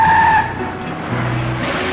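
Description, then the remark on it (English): A deputy's car pulls up outside a diner with a short, sharp squeal of skidding tires, then its engine keeps rumbling low and steady as it comes to a stop. “He waves, and the deputy pulls up.”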